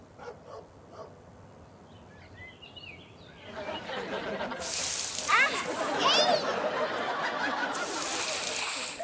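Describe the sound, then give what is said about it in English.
Water splashes onto a person, soaking their hair and shirt, in two loud, hissing bursts, the first longer and the second near the end, with sharp high-pitched squeals in between after a quieter start. “My hair, my shirt, I'm soaked.”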